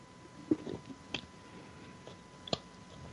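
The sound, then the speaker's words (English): Someone takes a quiet sip of water: a few soft, wet mouth clicks and a small swallow, spaced unevenly over a few seconds with no talking. “Let me take a sip of water before I say this so I don't choke.”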